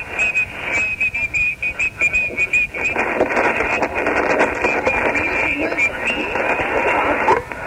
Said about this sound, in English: Roger, I think I hear a faint sound like that. It sounds like he's on lower sideband or something. We're just barely hearing a buzz, over.